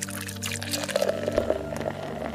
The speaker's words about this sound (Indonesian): Dengan penuh keyakinan, si penjual minyak mengambil gayung penuh berisi minyak. dan kemudian menuangkan dari atasnya melalui lubang kecil di tengah koin tadi sampai botol guci terisi penuh.